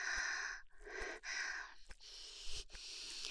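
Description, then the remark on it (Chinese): Heavy, breathy panting from a woman, about five long airy breaths in a steady rhythm, fairly loud, with no talking. “喘息声是最美妙的音乐。”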